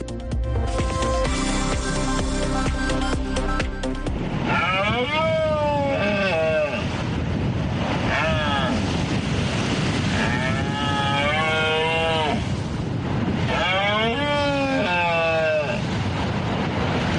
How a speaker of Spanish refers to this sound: Escuchan, es uno de los sonidos de la naturaleza más reconocibles de nuestra región, la berrea del ciervo, que ya ha comenzado, es el periodo de celo de estos animales, que ya se ha convertido en todo un reclamo turístico en nuestra provincia